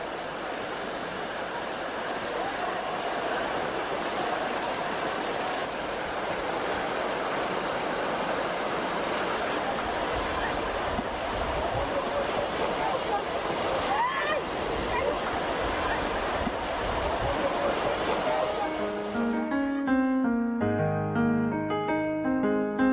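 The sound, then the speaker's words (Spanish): A loud, continuous roar of rushing river rapids used for rafting fills the scene, steady, until gentle sustained musical tones take over in the last few seconds. “Gentes de ambas orillas aprovechan los rápidos del río para practicar un cómodo rafting.”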